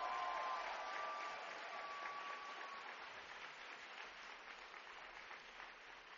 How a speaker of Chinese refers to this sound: 哈利路亚，给上帝一个热情的掌声欢呼。